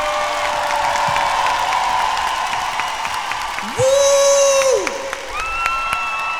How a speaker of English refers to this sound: Round of applause for the dancers, everybody.